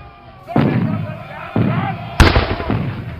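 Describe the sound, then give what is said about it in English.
A barrage of British rocket fire from warships in the river at Fort McHenry: three loud, booming blasts about a second apart, each followed by a rumbling, crackling tail, with the last burst the sharpest. “Yes, Bill, I'm here, reporting from a hastily dug trench, ducking the British rocket fire, which is unrelenting.”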